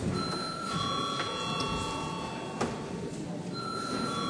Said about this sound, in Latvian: Mēs darba kārtību turpināsim izskatīt pēc pārtraukuma. Lūdzu zvanu.